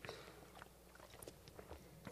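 Someone drinking water: soft, quiet mouth clicks and swallowing sounds scattered irregularly over about two seconds, with no talking.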